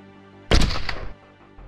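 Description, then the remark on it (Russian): A single loud shot from an SVU sniper rifle cracks out sharply, then a brief rumbling echo fades over about half a second. No voices, just a low background hum before and after. “Пытаясь сообразить, как теперь выскочить из зоны обстрела, мы услышали характерный с подшипом выстрел СВУ.”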